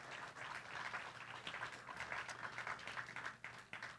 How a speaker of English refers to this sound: And I love the fact that I can confidently stand up here and say, we've got some great dads in our community. And so that's deserving of a round of applause. Thank you, dads.